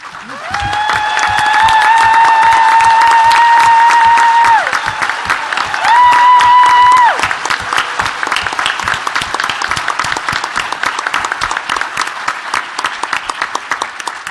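A crowd at the Socialism conference claps steadily and loudly for the Writing Freedom Fellows for the full length, a dense patter of many hands, with sustained whistles or cheering tones rising above it early on and again briefly midway.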